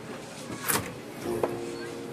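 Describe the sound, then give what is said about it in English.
A secret door at the back grinds open: a sharp mechanical clack, then a low motorized hum with a brief knock, fairly quiet against background murmuring. “Bro, there's a secret door back here.”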